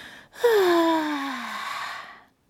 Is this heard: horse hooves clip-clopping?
no